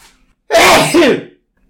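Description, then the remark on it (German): A single loud sneeze bursts out after a short quiet lead-in, a sharp intake-and-blast that fills the air for under a second before trailing off into silence. “Oh, ich muss niesen.”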